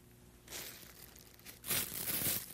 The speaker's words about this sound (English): I found a piece of paper.